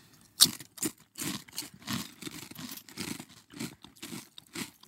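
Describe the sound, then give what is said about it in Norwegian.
Loud, crisp crunching of potato chips seasoned with a homemade spice blend being chewed, a sharp bite followed by a steady run of repeated crackly chews with brief pauses, no talking. “Skru ned lyden litt, så skal vi tygge.”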